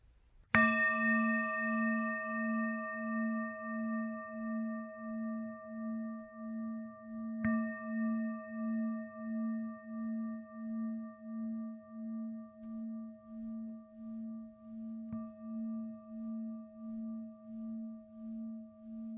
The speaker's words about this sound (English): could you ring the bell for us? That would be great.